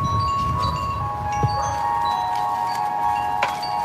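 Ambient electronic film music: steady, hovering synth tones over a hissing, windy texture, with a couple of soft metallic clicks surfacing. Moderate level, no voices.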